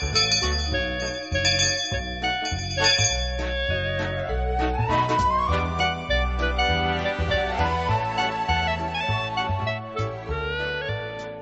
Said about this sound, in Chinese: 每当听到这个铃声的时候呢